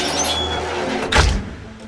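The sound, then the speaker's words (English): The massive gates of Ham House, a 17th-century country house in southwest London, clunk and swing open with a low thud near the middle after the fire alarm has gone off, over a steady outdoor background hum with faint high tonal squeaks early on. “The house's massive gates swing open.”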